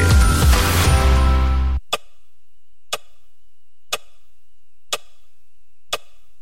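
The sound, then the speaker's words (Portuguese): A burst of loud music cuts off abruptly, followed by a clock ticking five times, one crisp tick per second, in otherwise quiet surroundings. “Conta 10 segundos no relógio aí.”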